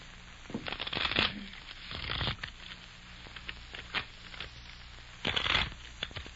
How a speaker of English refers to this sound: Hey, I thought I told you not to shuffle. Oh, shucks, I can't make them stay together, so then... Well, that's because you don't hold the deck right.